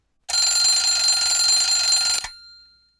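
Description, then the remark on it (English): A loud mechanical alarm clock rings at 7 o'clock to wake someone up, continuously for about two seconds, a harsh, bright metallic clatter that stops abruptly and leaves a short fading shimmer. No one speaks. “Stella wakes up at 7 o'clock every day.”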